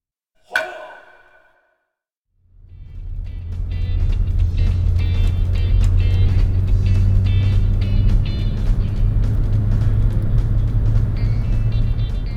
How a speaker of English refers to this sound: Taylor, Masato, and Kaori are driving around in the car, and Masato spots an interesting place and asks Taylor about it.